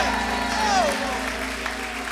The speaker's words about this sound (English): Somebody clap like you got a revelation.